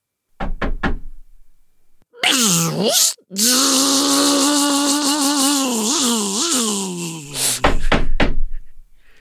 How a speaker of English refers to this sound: Lydda, late into the night while you're working, there is definitely a knock at your door.